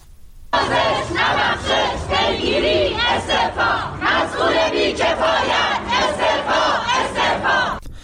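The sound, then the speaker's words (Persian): A large crowd of protesting journalists chants in unison on Wednesday in front of the Department of Environment building, demanding prosecution and punishment of those responsible for the deaths of two journalists in the Urmia bus crash; loud and steady, with rhythmic pulses of many raised voices that kick in abruptly after a brief quiet start and carry on throughout. “گروهی از روزنامه‌نگاران روز چهارشنبه در مقابل ساختمان سازمان حفاظت محیط زیست تجمع کردند.”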